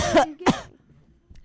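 coughing

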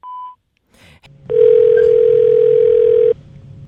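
answering machine tone

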